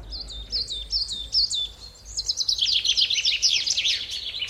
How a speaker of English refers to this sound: But if you want to create something very beautiful, then you can only use one sound. It's birds singing.